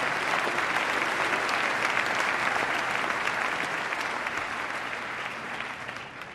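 An audience claps for Glens Falls, New York, and its Balloon Festival during a speech on upstate New York events, a dense wash of many hands with no pauses, holding strong before slowly thinning and fading toward the end.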